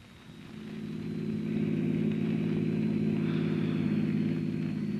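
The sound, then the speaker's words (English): The engine of Miss Miller's car rumbles steadily as it approaches, growing louder over the first couple of seconds and then holding an even drone with no one speaking. “There's Miss Miller's car, Chief.”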